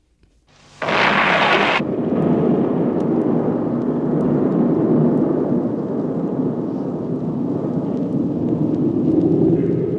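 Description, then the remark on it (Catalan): A rocket launch roar bursts in after a near-silent start, with a sharp hissing blast at first, then a sustained, loud, deep rumbling roar that continues steadily to the end. “Bueno, satèl·lit, menteixo, coet, que és el que transporta el satèl·lit.”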